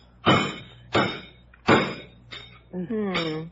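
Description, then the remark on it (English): Hacking at a tough roast turkey being carved in a kitchen: four heavy, loud chopping whacks land about every two-thirds of a second, followed by a brief voiced sound from a person. “Jeeves is in the kitchen carving it now.”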